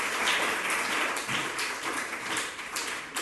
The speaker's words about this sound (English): Clap your two hands together for you.